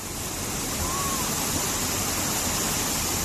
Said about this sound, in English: This is the wind and rain pounding one town where 13.5 inches of rain fell in just a few hours.